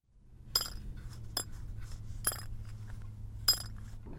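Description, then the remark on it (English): A small rounded-edged metal dog tag, once worn around the neck of Marine Corps hero Corporal Ira Hamilton Hayes, clinks and jingles as it's handled, with four sharp, bright taps at irregular intervals over a low steady hum. “This rounded-edged dog tag was once worn around the neck of the famed Marine Corps hero, Corporal Ira Hamilton Hayes.”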